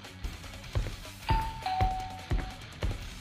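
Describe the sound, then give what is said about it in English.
A doorbell chimes a two-note ding-dong, the second tone slightly lower and held longer, over a steady series of dull low thumps about every half second. No one speaks. “Hold on, let me get the door there.”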